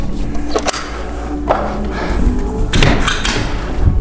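Doors being closed: several dull thuds and clunks spread over a few seconds, with a cluster of louder knocks toward the end, against a steady low background rumble.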